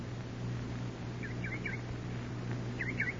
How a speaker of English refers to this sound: No. That's a bird. Bird.